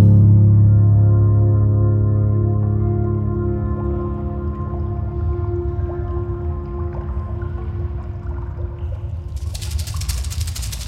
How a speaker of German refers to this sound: Hörst du das, Sam? Ja. Wasser.